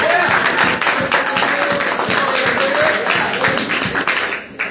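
An audience applauds in a dense, steady wash of clapping that holds loudly for several seconds, with a few voices cheering through it before it starts to thin out at the end.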